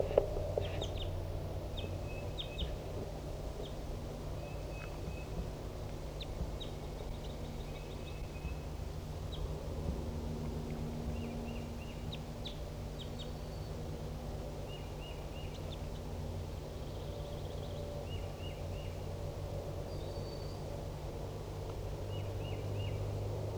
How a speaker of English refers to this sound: There's another wild bird here. It's 10:30 a.m. And so Decoy and 4-7 and the other newly caught birds are responding.